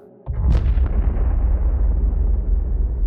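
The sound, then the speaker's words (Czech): A single explosion bursts in suddenly after a brief quiet moment, followed by a deep, sustained rumble that rolls on and slowly fades, sounding heavy. “Výbuchy jsou slyšet každou chvíli.”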